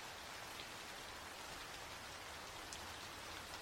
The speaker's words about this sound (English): It's raining cats and dogs.